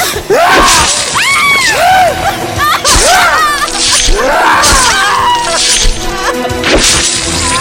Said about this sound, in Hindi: अंदर से चीखें, बुरी तरह चीखें आ रही थी और हम बाहर पत्थर की तरह जमे हुए सिर्फ उन्हें सुन सकते थे और कुछ नहीं कर सकते थे।